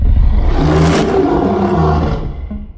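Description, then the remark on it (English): A loud, sustained, growling roar with an unnatural swelling shape, a modern recreation of a 1933 film monster's roar made by mixing lion and tiger growls, reversing the tape and adding a few human grunts, filling nearly three seconds before cutting off abruptly. “Then what they did was reverse the tape and sprinkled in a few human grunts.”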